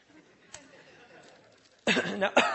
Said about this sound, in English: Sorry, I keep coughing on you